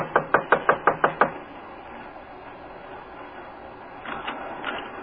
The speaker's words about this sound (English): Just knock on the door.